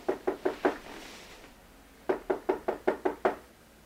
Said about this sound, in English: It is a pleasant dream, which is quickly interrupted by a knock.